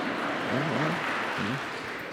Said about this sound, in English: I'll tell him you applauded. He'll like that, all right?